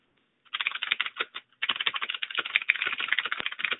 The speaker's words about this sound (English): lot of typing. I'm sorry. You tap like really fast there.